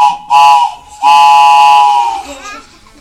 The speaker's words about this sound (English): Here comes a train.